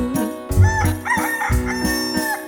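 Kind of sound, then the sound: bird, rooster crowing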